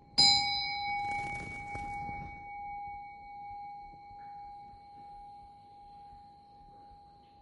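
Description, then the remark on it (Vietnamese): A single clear meditation bell strike with a sharp onset, its pure tone ringing out and slowly fading over several seconds, no voices present. “Nghe chuông, xin mời nghe chuông.”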